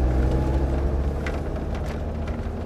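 A car engine idles steadily, a continuous low rumble with a faint humming drone that holds at an even level throughout, with no voices heard.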